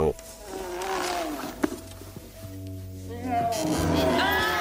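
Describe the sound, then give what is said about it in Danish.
A deep, growling roar from one of the pig monsters in the video game Doom, as a large statue is about to fall on its head, with a harsh, rasping texture, sustained over several seconds and swelling louder toward the end. “Det er en af svinemonstrene fra Doom, der siger...”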